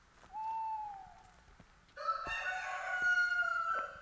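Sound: rooster crowing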